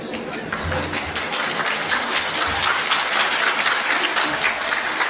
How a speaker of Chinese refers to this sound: 还有人唱完是为自己鼓掌的呀，这个掌声都是给主的，对吧？